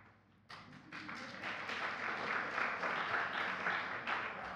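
An audience breaks into applause after a quiet start, many hands clapping in a steady, dense patter that holds at an even, moderate loudness for several seconds.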